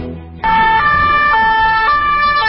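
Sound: police sirens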